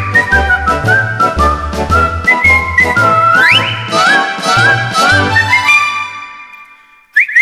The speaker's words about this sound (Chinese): 赶紧吹口哨叫它回来。